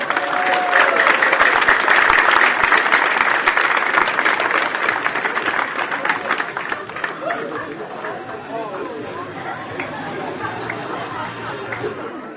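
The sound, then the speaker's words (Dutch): A crowd applauds loudly with dense, rapid clapping mixed with cheering and chatter, welcoming Ruud Gullit at the Vrije Evangelische Gemeente, peaking early and then gradually tapering off into a softer murmur of voices. “Mag ik een daverend applaus voor de enige echte Ruud Gullit!”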